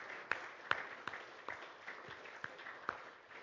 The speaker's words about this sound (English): Come on, join me in giving God a hand clap of praise.